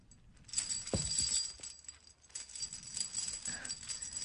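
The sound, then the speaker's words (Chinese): A locked metal chain rattles and clanks, tugged repeatedly in a continuous jangling series, with a sharper jolt near the start and no voices. “别白费力气了，这个链子没有我的钥匙，你一辈子都打不开。”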